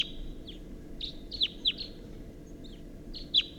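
At least a pair of wild birds call back and forth from an oak tree at 6:14 a.m. in a series of short, high chirps with sharp downward sweeps, repeating irregularly over a steady low rumble. No one speaks.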